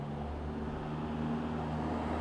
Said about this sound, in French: Le bruit du moteur se rapproche, le bus a pris de la vitesse dans cette grande descente. Je ne suis pas la seule à l'attendre.